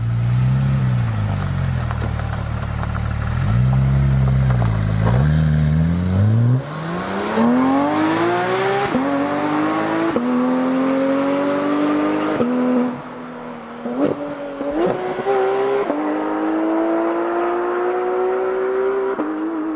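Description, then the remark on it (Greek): A Porsche GT3 sports car engine idles and blips, then climbs steadily through the gears in rising, high-pitched surges, loud with no talking over it. “Εγώ θα πω λοιπόν ότι αγαπημένο είναι βασικά το GT3.”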